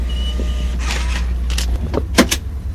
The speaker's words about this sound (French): Partis pour plusieurs heures de voyage, les 3 lycéens s'installent au fond du bus. Ils quittent la petite gare qui ne voit plus passer que des trains touristiques.